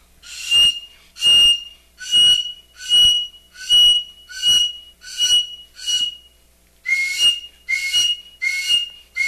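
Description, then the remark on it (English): A shrill, piercing eagle whistle made by Indians from eagle bones, blown in a rapid series of about eleven short, evenly spaced blasts, each a sharp screechy tone mimicking an eagle's cry, loud with brief pauses between. “And it sounds just like an eagle when you blow on it.”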